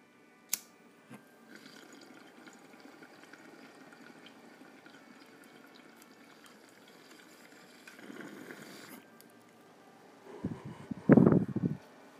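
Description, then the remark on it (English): Bong water bubbles and gurgles while someone takes a hit of weed, a soft short burst first, then a louder, steady rush of bubbling near the end after mostly quiet background. No one speaks. “this bong talks for you.”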